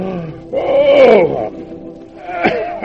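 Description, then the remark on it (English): A person gives a long, loud, voiced yawn that swells and slides in pitch, then trails into a shorter, breathy second groan. A human voice acts out the yawn of a sleepy hare in a told story. “But waiting made the hare sleepy. He yawned.”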